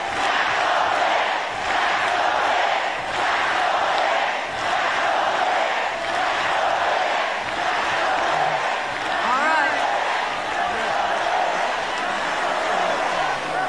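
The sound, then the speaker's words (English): A large crowd cheers and shouts loudly and steadily for the whole stretch, an unbroken roar of voices. A single speaker's brief words cut through it once. “This crowd is fired up.”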